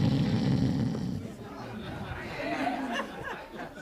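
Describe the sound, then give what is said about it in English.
A voice imitates loud snoring with rough, rumbling breaths, portraying Jesus asleep on a rocking boat, while a crowd murmurs and chuckles in the background. “The board rocked. The louder he snored.”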